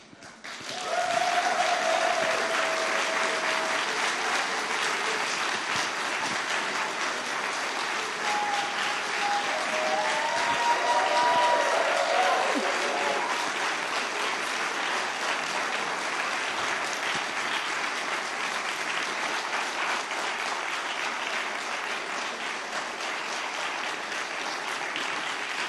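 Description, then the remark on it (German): Sustained audience applause for the BU staff called to the front, a dense steady wash of clapping lasting over twenty seconds, with a few brief whistles or cheers rising above it. “Das ist euer Applaus.”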